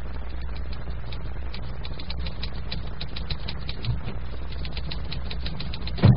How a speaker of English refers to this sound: The scene is again the doctor's office, and Judy is again pounding the typewriter.